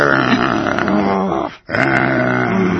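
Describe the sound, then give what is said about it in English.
People growl like wolves, practicing wolf behavior, a loud, continuous rumbling snarl that breaks off briefly in the middle, then resumes just as strongly. “Practicing our wolf behavior.”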